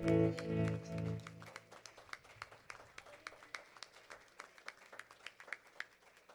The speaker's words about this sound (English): Our good Father, a hand clap of praise this morning.